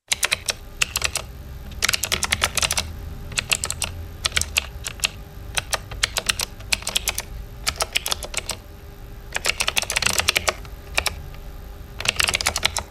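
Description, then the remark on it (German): Rapid keyboard typing in irregular bursts of sharp, crisp clicks, with brief pauses between flurries over a low steady hum. No voices are present. “Wenn Sie jetzt noch eine Taste drücken, klingt das Ganze gleich viel besser.”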